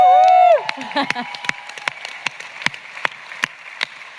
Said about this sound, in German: Hey, Publikum, Leute. Wow. Ja, das sind Leute, echte Menschen. Ja. Kennt man gar nicht mehr. Ja, ich mach das noch einmal. Noch einmal Applaus, Sie haben es so lange nicht gehört.